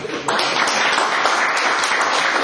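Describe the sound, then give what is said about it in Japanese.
A short burst of applause, dense and steady clapping from a group that starts abruptly and holds at an even, fairly loud level for a couple of seconds, given in response to a message apologizing for forgetting a wedding anniversary. “結婚に記念日なんて忘れてました、ごめんなさいということで拍手です。”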